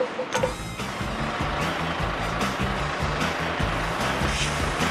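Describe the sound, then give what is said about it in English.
A water tank truck used to clean the streets sprays water with powerful pressure in a loud, steady rushing hiss that continues throughout, over a low rumbling engine with a rhythmic low tone underneath. No one speaks. “This is a water tank truck to clean the streets. Its spray is so powerful that it can be used as a fire truck.”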